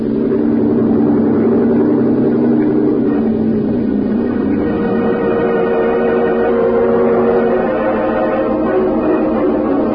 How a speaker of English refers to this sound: Lieutenant, head us in. Cut your engine.